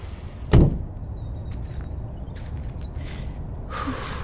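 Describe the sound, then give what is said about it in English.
A key turns in a lock with a sharp click, followed by faint rattling and then the soft rush of a front door swinging open. “I was surprised to see my key still worked.”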